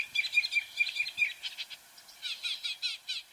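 A northern mockingbird sings alone in a quick run of varied, repeated chirps and whistled phrases, shifting abruptly between song types, clear throughout.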